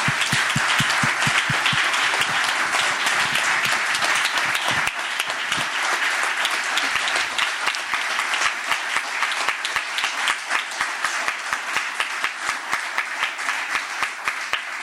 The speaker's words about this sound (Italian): A questo punto penso che proprio per celebrare l'impegno di Rosalba e di tutti i volontari vi chiedo un forte applauso che possa raggiungerla.